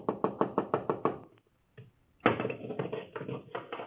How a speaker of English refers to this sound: Our story begins in the deep darkness just before dawn, when a hurried knocking sounds at the door of the house of Gamaliel, the teacher in Jerusalem